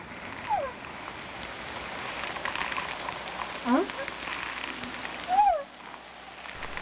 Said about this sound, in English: But what we also have to face is we're hearing these whales right now singing in Whale Channel. There's hardly any boat noise. It's quiet most of the time.